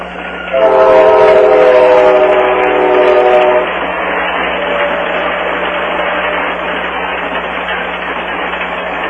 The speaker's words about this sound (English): Wait until this train goes by. We'll just listen to the train. That's a great sound.